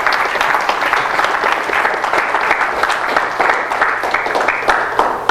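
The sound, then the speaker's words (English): A crowd claps steadily and loudly for the Lord at a preacher's call, a dense wash of many overlapping hand claps that holds its level for several seconds with no voices heard. “Give the Lord a hand of applause on this.”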